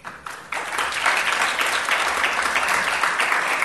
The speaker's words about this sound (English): I guess all those great panelists deserve some applause.